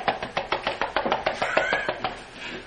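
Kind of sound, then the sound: vocal imitation, voice imitating a helicopter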